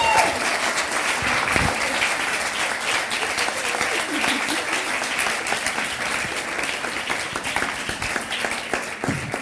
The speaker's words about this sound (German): Dankeschön, das ist dein Applaus und deine Willkommenstüte.